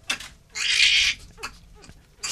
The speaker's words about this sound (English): In the waiting room, a baby was crying.